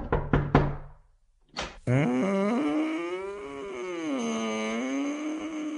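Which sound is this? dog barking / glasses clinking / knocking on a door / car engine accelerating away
knocking on a door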